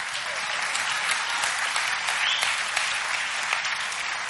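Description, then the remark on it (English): A crowd applauds steadily, a dense, sustained wash of many hands clapping at once, fairly loud and continuous throughout with no voices standing out. “That's why God gave me to you as a father now to tell you, okay, from this point on, get it right. Clap.”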